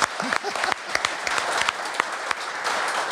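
A short burst of clapping fills the space, dense and steady for a few seconds, with a couple of brief voiced exclamations rising over it near the start.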